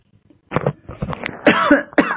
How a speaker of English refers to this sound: Excuse me, having a little cough.